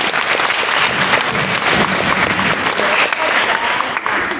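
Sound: audience applause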